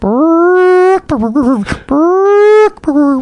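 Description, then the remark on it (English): A person imitates a chicken's ground-predator alarm call: two long, loud, drawn-out wailing notes, each followed by a quick, choppy burst of clucking syllables. “And so here's a bird, a chicken, saying, "There is an intruder approaching me at ground level." Here is the word, I've learned it.”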